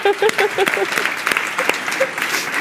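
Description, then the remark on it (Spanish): An audience applauds in a dense, steady wash of many hands clapping, fairly loud throughout, with a few voices briefly calling out at the start. “Bueno, un aplauso se ha puesto en verde, ¿no?”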